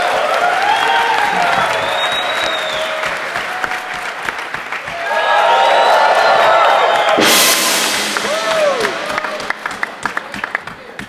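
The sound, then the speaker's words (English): A crowd at an award ceremony claps and cheers steadily for the start of the gong, with whoops and shouted voices rising over dense applause, swelling louder midway before tapering into scattered claps. “So let's make some noise and everything for starting up the gong.”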